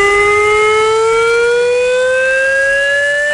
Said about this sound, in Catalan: Del matí s'activaran les sirenes a una dotzena de municipis que tenen indústries químiques. Les persones que siguin en aquella zona també rebran un missatge al mòbil alertant d'aquest simulacre.